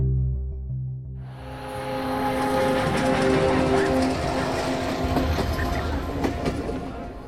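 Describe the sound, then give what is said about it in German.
A train pulls into the station in the small Swiss town of St. Gallen, Switzerland, with 136 passengers getting off: a low engine drone at first, then a steady rumbling, hissing roar of the cars rolling in, loud and continuous to the end. “Die 136 geretteten Jüdinnen und Juden steigen im kleinen Schweizer Städtchen St. Gallen aus dem Zug.”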